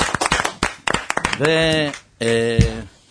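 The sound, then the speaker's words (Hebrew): A quick burst of irregular hand clapping, a dozen or so sharp claps, for friends gathered in a sukkah to sing and celebrate, gives way to a loud, drawn-out voice calling out over a few last claps. “אז בואו נעשה עוד קצת שמחה יהודים פה, הנה התקבצו פה כאן, קודם כל מגיע פה לכל החבר'ה שבאו פה והתקבצו פה, הידידים שבאו והתקבצו, ובאו לעזור לנו פה לשיר ולעשות פה שמחה, אז מגיע להם הרבה הרבה מחיאות כפיים.”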